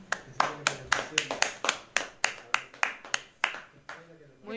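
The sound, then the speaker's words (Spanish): A short burst of sparse, fairly steady hand clapping, about a dozen sharp claps over a few seconds, tapering off at the end into a faint murmur. “Un aplauso para todo general.”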